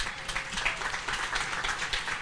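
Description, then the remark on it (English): A crowd applauds steadily for a couple of seconds, a dense, even wash of many hands clapping at once, fairly loud with no voices standing out. The crowd is applauding the standing wives of men who serve at HBC church. “They need to be applauded because, listen, sometimes I keep these guys kind of late.”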